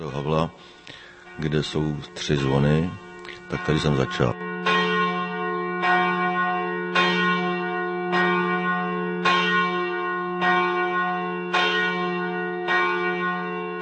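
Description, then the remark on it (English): A man talks briefly, then church bells ring out loud from the tower of St. Havel church in Prague, which has three bells, struck in a steady rhythm about once a second, their deep tones humming and overlapping. “So I offered to ring them, and he told me to go over here to St. Havel, which has three bells, and that's where I started.”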